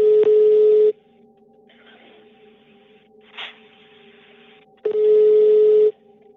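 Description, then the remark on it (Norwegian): A telephone rings twice, each loud, buzzy ring lasting about a second with a few seconds of near-quiet between them and a faint hum underneath. No one speaks. “Og da ringer jo da telefonen.”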